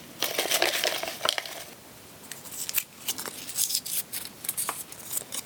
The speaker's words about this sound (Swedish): Men vi utlovade fler priser och nu drar vi bland alla som skickat in oavsett antal rätt. Då tar vi även och häller i de här svaren som inte hade alla rätt och blandar om lite.